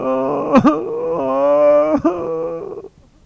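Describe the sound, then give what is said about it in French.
A woman's voice, as Maman Lapin (Mother Rabbit) in a children's story, wails in a long, drawn-out crying tone, broken by two sharp sobbing catches before trailing off into quiet. It sounds like an acted imitation of weeping. “Maman Lapin se met à pleurer.”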